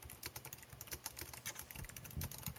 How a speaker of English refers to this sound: Are you typing? What are you doing? What are you typing?